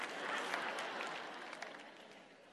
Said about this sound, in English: Yeah, y'all clap so I can finish my bite.